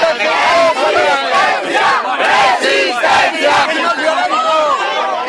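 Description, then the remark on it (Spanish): A large crowd of protesters with hands raised chants slogans together, shouting "These are our weapons and resistance", many raised voices in a loud, steady rhythmic shout that swells and dips in unison throughout. “Desde la plataforma se quejan de la violencia policial ante personas que con las manos en alto gritaban: «Estas son nuestras armas y resistencia».”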